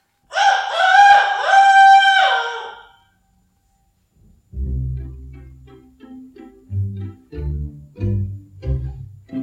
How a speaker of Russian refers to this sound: За окошком снова прокричал петух, фитилек пеньковый дрогнул и потух.